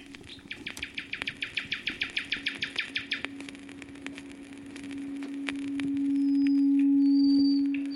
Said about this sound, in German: Charakteristisch für den Nachtigallenschlag ist das prächtige, anschwellende Schluchzen, das zwischen den abwechslungsreichen Gesangsstrophen immer wiederkehrt.